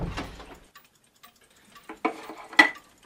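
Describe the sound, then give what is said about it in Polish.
Clocks on a wall in a basement ticking, a handful of sharp, dry ticks at an uneven pace, with a louder rustle at the start and no voices. “Zegary są i czekają na swój czas.”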